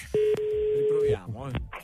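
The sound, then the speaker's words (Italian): A steady, fairly loud telephone tone hums for about a second after a couple of sharp clicks, after the other party has hung up the call, then cuts off as a voice starts speaking. “Perché mi ha attaccato il telefono?”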